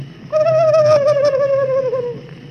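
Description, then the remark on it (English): A voice imitates a turkey gobbler with one loud, sustained, high-pitched call that wavers slightly and slides gently downward for about two seconds, with no other voices. “Then the great big turkey gobbler, he makes a noise like this.”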